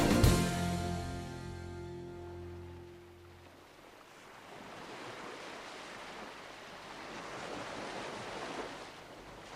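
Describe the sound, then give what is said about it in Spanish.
A lingering tonal note fades away, then ocean surf takes over, a broad rushing wash of waves that dips briefly and swells again, steady and moderately loud with no voices. “Bueno, pues el sonido del mar, este que estamos escuchando, ya es de por sí muy atractivo.”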